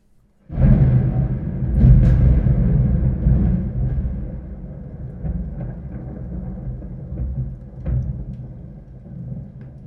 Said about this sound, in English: So I'm going to try and show you a bunch of different clips and show you what this thing sounds like. So we'll start with a thunder boom.